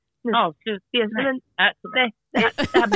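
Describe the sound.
A phone's ringtone plays as a series of short, tuneful, voice-like bursts separated by brief gaps, ending in a denser, brighter phrase.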